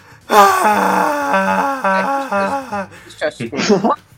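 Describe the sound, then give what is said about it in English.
A high, strained cartoon creature voice screams and wails wordlessly, rising and wavering in a long, loud warbling cry before breaking into a few sharp yelps and a final rasping shriek. “He is just screaming at the unknown. I love this scream.”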